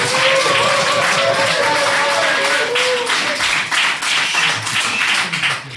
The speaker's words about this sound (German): Komm, wir dürfen klatschen im Hintergrund.